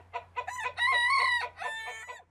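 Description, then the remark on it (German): Chickens cluck in short bursts, then a rooster lets out a loud, drawn-out crow in the middle before a few more clucks follow, with a faint low hum underneath. “Kühe geben weniger Milch und Hühner legen kleinere Eier.”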